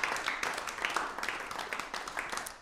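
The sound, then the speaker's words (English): Steady applause from an audience for this year's JTTP winners, many hands clapping at once in a dense, continuous patter that holds at an even level for a few seconds. “So how about a round of applause for this year's JTTP winners.”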